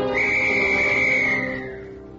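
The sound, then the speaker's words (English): A single shrill, sustained blast on a little tin whistle, loud, holding one piercing high note for about a second and a half before fading slightly, with no voices. “And that made the little tin whistle seem more important to me than ever.”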